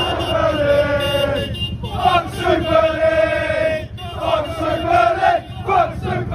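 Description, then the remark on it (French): A large crowd of Chelsea football fans chants loudly in unison on a Tuesday evening in protest against the Super League project, a sustained, rhythmic mass of voices with repeated rising phrases and steady pulsing beneath, continuing without a break. “Les 6 clubs anglais, la moitié de l'effectif a tourné kazakh face à la fronde des supporters, à l'image de ceux de Chelsea, qui exprimaient mardi soir à leur façon tout l'amour qu'ils avaient pour ce projet de Super League.”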